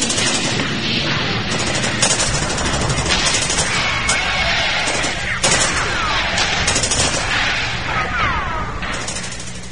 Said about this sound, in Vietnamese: Trên đường rút lui, chúng càng thêm hoảng hốt khi nghe tiếng súng đổ vang trời cùng với tiếng la.